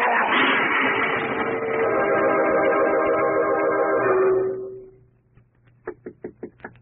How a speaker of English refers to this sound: Who's there? Who's knocking?